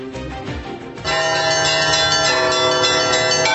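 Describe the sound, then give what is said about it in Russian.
Melodic church bells ring out in a dense, overlapping peal, the sound swelling louder after the first second and sustaining with rich, ringing tones, echoing off the walls of the Kazan Kremlin in Kazan, Tatarstan, during the celebration of the Kazan Icon of the Mother of God. “Мелодичный звон колоколов отражается от стен Казанского Кремля.”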